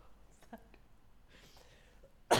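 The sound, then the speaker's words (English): A single sharp cough bursts out at the very end after a stretch of near silence with faint, soft murmurs. “I just needed to cough.”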